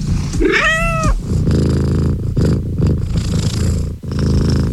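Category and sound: animal, cat purring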